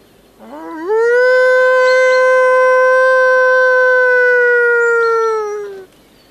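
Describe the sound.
A person imitates a wolf howl to demonstrate how wolves are called, one long sustained tone that rises sharply at the start, then holds steady and loud for about five seconds before fading out.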